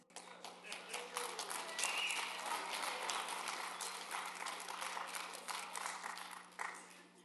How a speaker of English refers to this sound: Are you clapping because I stopped singing? You want more?